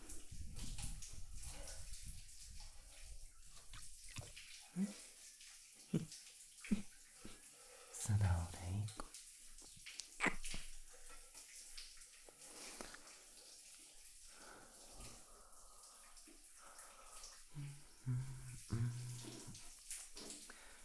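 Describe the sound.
Shower water runs steadily at close range, a continuous splashing hiss with occasional louder spatters and bumps, while a soft voice speaks intermittently beneath it.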